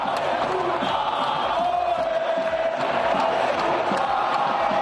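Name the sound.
football fans chanting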